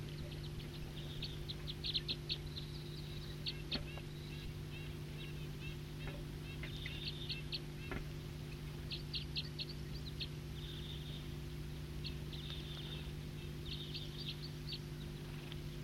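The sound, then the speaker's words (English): Wild birds chirp in quick, high-pitched bursts that come and go throughout, over a steady low mechanical hum, with no one speaking. “So recording some wild birds here.”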